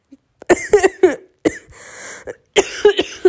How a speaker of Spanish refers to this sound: su pinche madre, como eso que acabo de toser. Pero su madre, es que estoy bien pinche enferma.